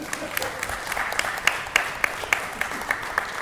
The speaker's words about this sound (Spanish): No sé por qué le aplaudís, que luego se lo cree.